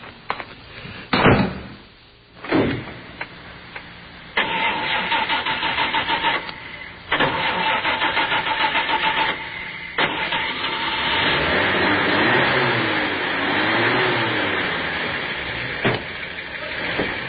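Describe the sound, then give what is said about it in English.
A car door slams shut, followed by the starter cranking and the engine catching, then a steady running engine hum that rises and revs slightly as the car pulls away. “Oh, why don't we just go over and look at it? I'll take you in my car.”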